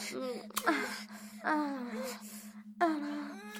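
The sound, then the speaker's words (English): A woman moans and gasps in several drawn-out, breathy bursts with sliding pitch, fairly loud, over a faint steady hum. No words are spoken. “She's moaning and gasping now.”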